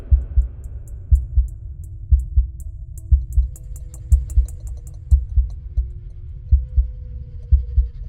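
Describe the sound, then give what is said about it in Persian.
A deep, muffled heartbeat, a rising pulse heard in the temples, thuds steadily in paired beats, prominent, over a low droning hum with faint high ticking above it; no one speaks. “همینطور که ضربان قلبم می رفت بالا می تونستم صدای نبض روی شقیقه هامو بشنوم.”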